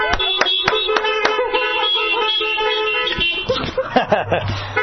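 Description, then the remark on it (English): Several car horns honk at once from people sitting in their cars at an outdoor church gathering, after a Happy Birthday song, mixing long sustained blasts with short repeated toots, fairly loud, before a burst of voices and laughter rises near the end. “Honk your horn.”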